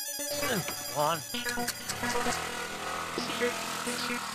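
A mobile phone ringtone for an incoming call plays a steady electronic melody of sustained beeping tones, fairly loud, following a brief burst of vocal sounds at the start.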